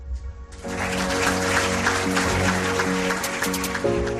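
An audience breaks into sustained applause, an ovation for the winner of the Turiscope Castelló award for historic and heritage tourism, given for the Belén del Portillo nativity scene in Altura; a dense crackle of many hands clapping that starts abruptly and continues steadily, with steady musical tones sounding underneath.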